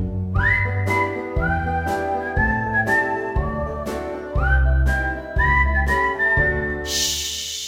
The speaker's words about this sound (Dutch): Shhh. Hoor je dat geluid? Luister je geboeid? Mooi toch dat gefluit? Prachtig hoe het samenvloeit. We fluiten tot besluit en zingen verder onvermoeid.